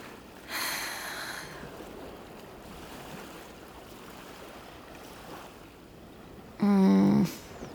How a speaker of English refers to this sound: Ocean is pretty, though. Pretty, but scary.